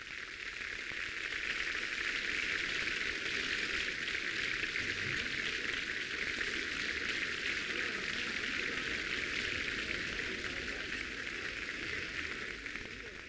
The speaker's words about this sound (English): The insistent applause of the audience has brought Maestro Toscanini back to the stage again. He is now beckoning toward the members of the orchestra, as he so often does, to show that he wants them to share the applause with him.